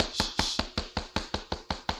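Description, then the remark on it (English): A rapid, steady run of about ten sharp knocks on a door, evenly spaced, with no voices. “Who is that knocking?”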